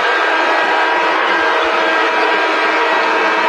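A basketball crowd at a Riverdale versus Memphis Central game boos a referee's jump-ball call, a loud, sustained roar of many voices that holds steady for several seconds with no one speaking over it.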